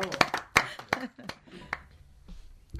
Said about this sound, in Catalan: Bueno, le aplaudimos también, ¿no? Muy bien.